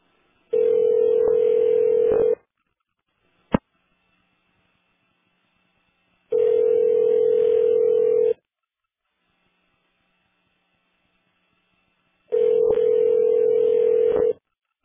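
A telephone ringback tone of a call connecting: three steady two-second rings separated by long silent pauses, with a brief click in between, clear and alone with no talking.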